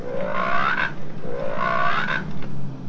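A frog croaks twice in a row, each call a rising, drawn-out croak of about a second, loud with a steady low hum underneath and no one talking.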